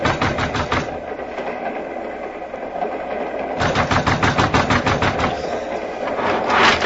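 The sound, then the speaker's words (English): Rapid, heavy pounding on the connecting door to a train's baggage car comes in two loud bursts, a brief flurry at the start and a longer run later, over a constant rumbling, rattling train noise. “It really wouldn't make any difference, so I pounded on the door.”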